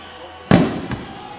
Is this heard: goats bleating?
no